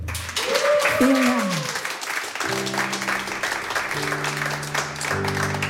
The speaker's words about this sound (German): Und heute ist sie schon bei uns live im Studio 1. Ich wünsche mir nochmal einen großen Applaus